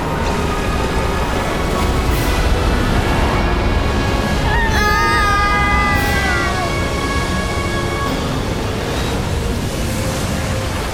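A loud, steady, dense roar of rushing sea water fills the whole scene as the sea closes over Pharaoh's army after Moses raises his hand, with a brief wailing cry rising above the surge midway through.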